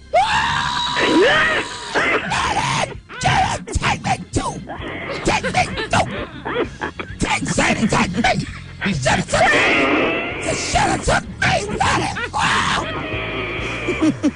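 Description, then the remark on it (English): A person wails and shouts in loud, overwrought grief, voice rising and breaking in long sobbing cries and yells, nearly continuous with only brief gasping pauses. “You got over that quick? You not shouting no more? I don't cry long.”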